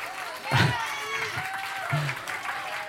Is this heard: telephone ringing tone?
no